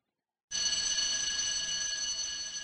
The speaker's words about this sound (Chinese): 下课的铃声响起